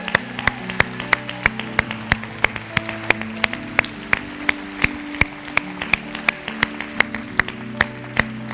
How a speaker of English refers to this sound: We just want to hoot and holler and cheer for you if that's anybody. Is today your day? Yeah? Woo!